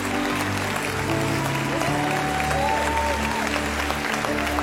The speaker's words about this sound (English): Come on, church, join heaven and clap. Let's rejoice as people are saying, we're not going to be stopped anymore.